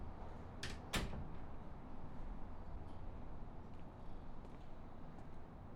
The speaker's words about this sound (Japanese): 急に隣の家の扉が開いてびっくりした？